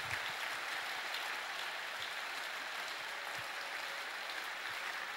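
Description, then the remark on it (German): A standing audience applauds Jesus steadily, a dense wash of many hands clapping at an even, sustained level for the whole stretch, with no voices standing out. “Lasst uns mal Jesus einen kräftigen Applaus geben, dass wir so einen Gott haben.”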